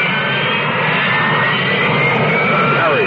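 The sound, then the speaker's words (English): A loud, steady engine roar from a Harrier jump jet, a Marine Corps jet that can land like a helicopter and match the speed of sound, with a whining high-pitched tone that slowly shifts, sustained and continuous for the whole stretch with no talking. “What is a Harrier? It isn't a helicopter, but it could land in your backyard.”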